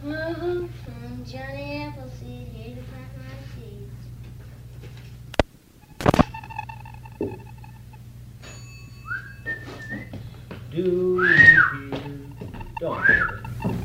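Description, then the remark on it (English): A train whistle sounds first as a wavering, multi-toned blast, followed by two sharp clacks and later a few shorter rising and falling whistle calls over a steady low hum. “Do you hear that whistle down the line? I reckon that it's engine number 493 and a half.”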